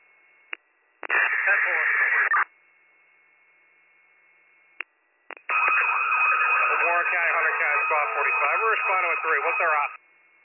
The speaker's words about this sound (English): Your siren's cutting out.